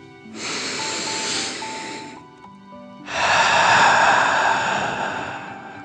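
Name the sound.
deep breath in nose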